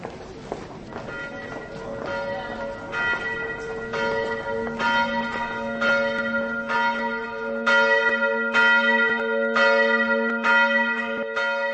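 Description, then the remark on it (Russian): The bells of St. Martin's church in Bratislava's old town, a church built in the 16th century, ring out in a steady, overlapping peal, each strike leaving a long ringing tone, with faint footsteps or street sounds underneath. “С колоколами костела Святого Мартина братиславчане сверяют свои часы.”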